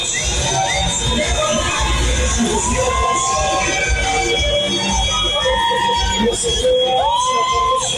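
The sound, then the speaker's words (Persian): A street crowd in Nazi Abad, Tehran, Iran, celebrating after Iran's national team lost to the United States, with loud, dense, continuous cheering and overlapping shouts, and scattered high, sustained tones like whistles or horns rising above the roar throughout. “بعد از باخت تیم ملی با آمریکا در جایی در ایران بزن و برخص بود، من جمله نازی آباد در تهران.”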